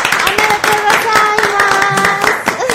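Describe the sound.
Steady applause of dense, rapid clapping runs for a few seconds at a fairly loud level, with a sustained voice-like tone sounding over the clapping.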